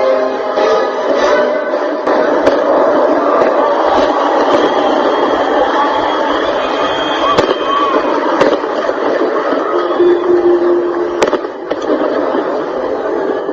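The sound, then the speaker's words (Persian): Fireworks crack in scattered sharp bangs over a steady, dense roar of crowd noise, with a few louder pops standing out now and then. The fireworks and light show wrap the world's tallest tower at its Monday-night opening in Dubai, watched by thousands. “دوشنبه شب بزرگترین برج جهان در دبی افتتاح شد و هزاران نفر شاهد مراسم آتشبازی و رقص نوری بودند که این آسمان خراش را در خود پیچیده بود.”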